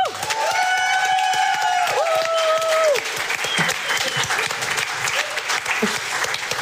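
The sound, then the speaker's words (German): An audience claps steadily in a dense, sustained burst of applause, with a whistle-like tone rising and holding over the first few seconds before the clapping carries on alone. “So, und auch nochmal einen großen Applaus für diesen fantastischen Spielleiter”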